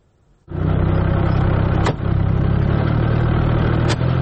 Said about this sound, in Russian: Это кадры работы машины дистанционного минирования российской армии. Так устанавливают заграждения на пути подразделений ВСУ.